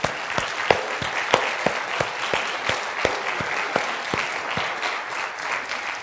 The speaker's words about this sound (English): Lift up the high praises. Hallelujah. I think we ought to give the Lord a really good clap offering.